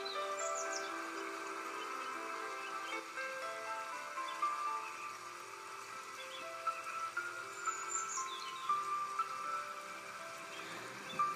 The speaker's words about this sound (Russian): А теперь представьте, что вы лежите в дивном саду. Вокруг поют райские птицы и множество цветов.